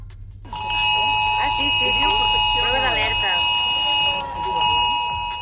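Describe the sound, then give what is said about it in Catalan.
A mobile phone emergency alert blares on people's phones at 11:40 as a shrill, steady multi-tone wail that holds for several seconds, breaks off briefly, then resumes, while voices talk underneath it. “però encara que estiguessis parlant per telèfon o s'estigués en una zona sense cobertura, l'alarma ha acabat sonant quan faltaven 5 minuts per 11:45.”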